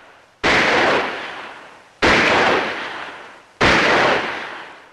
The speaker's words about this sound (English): Now, one after the other, the contestants continue taking turns shooting. While most hit the paper, Alvin's shots all land squarely inside the target fork.